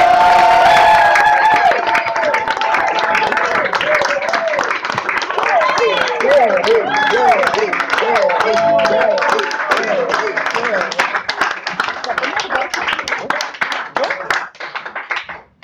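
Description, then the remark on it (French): A crowd at a goguette applauds a first-time performer loudly and steadily for about fifteen seconds, a dense wash of clapping mixed with cheers and whoops, fading slightly at the end. “Cette tradition, lorsqu'on fait une goguette pour la première fois, on applaudit deux fois plus fort et on applaudit très très très très fort”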